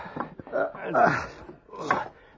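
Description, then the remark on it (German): Heavy wooden beams and bolts being worked loose from the door of a treasure chamber: a few sharp knocks followed by scraping, creaking wood, with strained grunting mixed in. “Wir müssen die Balken und die Riegel an der Tür zur Schatzkammer entfernen.”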